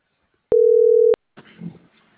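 A single steady telephone line tone sounds for just over half a second, starting and stopping with sharp clicks, as someone dials a call, followed by a short stretch of faint crackly line noise.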